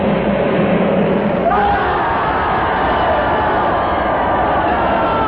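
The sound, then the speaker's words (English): A dense, continuous roar of a large crowd at a temple, many voices shouting and yelling together at a steady, loud level with no pauses, enveloping. “They're shouting and yelling enough that they're going.”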